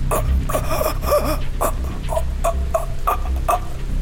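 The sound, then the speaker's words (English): A voice imitates the gasps of a choking man: a string of short, strained, raspy catches of breath repeated in an uneven rhythm, fairly loud over a low steady hum. “As you get close to him, now within a couple of yards, all you hear coming out of his mouth is a gasping noise.”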